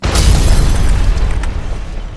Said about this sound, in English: Well, the Scoutmaster keeps them in the boot of his car. Oh. So I've got him a surprise. You mean the car bomb?